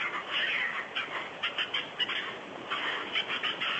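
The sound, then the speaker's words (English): A squirrel chatters in a long run of rapid, harsh, scratchy bursts that pulse unevenly for nearly four seconds, fairly high-pitched and steady in loudness, with no voices. “Is that a squirrel? Yes, it's a squirrel. It sounds like a monkey.”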